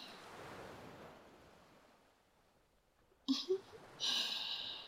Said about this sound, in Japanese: ベッドで、二人で横になりながら、ゆっくり波音を聞いてたいなーって思って。